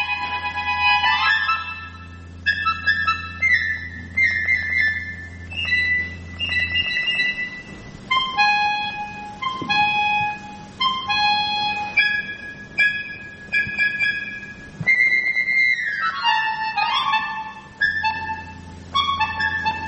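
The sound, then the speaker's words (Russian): A glass harmonica plays a slow melody of clear, ringing, sustained tones that shift from note to note, with a low steady hum underneath during the first third and again at the end. “Если говорить об архетипе стеклянной гармоники, то это вот как раз звучащий фужер, звучащий стакан.”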